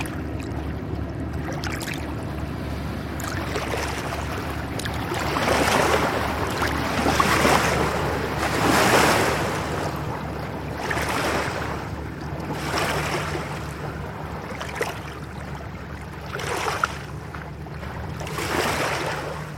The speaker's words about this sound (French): J'aime beaucoup il y a un bateau là qui passe, une péniche, qui a l'air de transporter du sable, vraiment très plate, avec un petit drapeau blanc à l'avant.